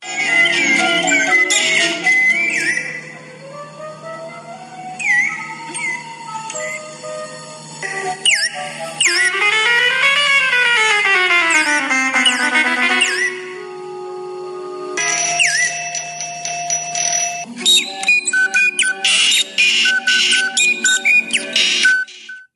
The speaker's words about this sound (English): I'm going to guess that one was not a bird. No, that was a bunch of birds.